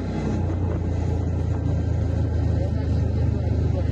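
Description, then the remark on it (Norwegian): A Chinese-made golf cart, an off-road vehicle, driven by a Russian soldier toward the front and filmed by him, runs with a steady low motor hum and rumble, constant and fairly loud throughout, with some rattling and road noise over it. “Dette er lyden fra en video tatt av en russisk soldat som kjører en golfbil mot fronten.”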